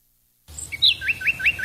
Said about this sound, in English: Hear that? The sound of adorable little birds in your garden.